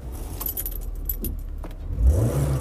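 car keys jangling

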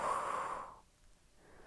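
long exhale

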